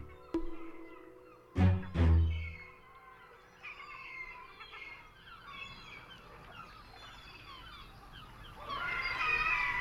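A gull lets out a couple of loud, harsh screeching calls, followed by a stretch of fainter, chattering bird cries that swell again near the end.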